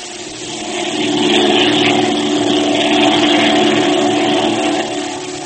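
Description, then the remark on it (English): A loud, steady airplane engine drones continuously with a propeller hum and a slight swell in the middle, unbroken, with no voices. “I'm ready to go to the plane now.”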